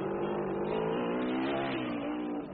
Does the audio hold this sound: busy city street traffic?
yes